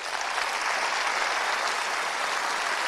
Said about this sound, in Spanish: Pero yo quiero que me den un fuerte aplauso a Liliana donde quiera que esté.